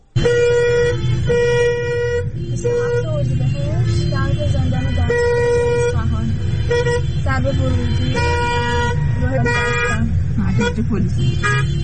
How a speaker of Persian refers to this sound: ترافیک جلوی زندان دستگیر رو نگاه کنید، تازه هنوز اینجا نرسیده به زندانه.